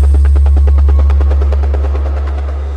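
A helicopter's rotor chops steadily and loudly with a fast, regular thumping pulse over a deep engine rumble, holding constant throughout with no voices.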